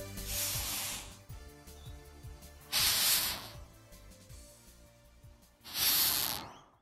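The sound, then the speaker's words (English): A rhinoceros beetle hisses in three sharp, breathy bursts spaced a few seconds apart, fairly loud, while faint bird chirps twitter in the background between them. “So you're saying that your physics students are a group of rhinoceros beetles”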